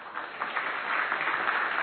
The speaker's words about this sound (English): Sometimes, you know, we clap for some of the nice kavita spoken, but this is the point which one should clap for.